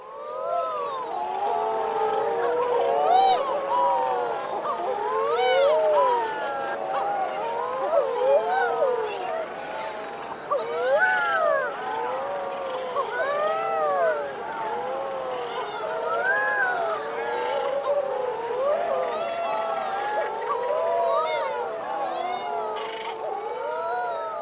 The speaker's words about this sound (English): I want you to listen to the angelic sounds of a wedge-tailed shearwater colony in the Seychelles Islands, in the Indian Ocean. The birds here are tucked into their nest burrows or sitting on the ground nearby.